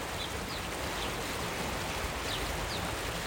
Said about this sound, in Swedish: Solen har precis börjat värma inne i centrala Uppsala. Morgonrusningen blandas med bruset från Fyrisån som faller från Islandsfallet.